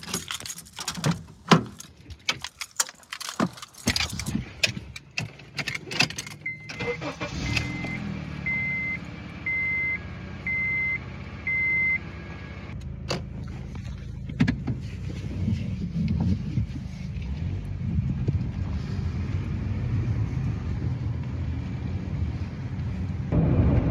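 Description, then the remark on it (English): Keys jingle and a car door thumps shut, then a few evenly spaced electronic chimes sound before an engine starts and settles into a steady low rumble as the car pulls away on a field search for yerba mansa plants. “Okay, get in this car.”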